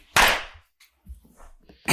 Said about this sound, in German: Also muss man unseren Hörern vielleicht direkt sagen, wir klatschen am Anfang einmal, damit wir synchron sind, damit die im Tonstudio wissen, wann wir anfangen zu reden.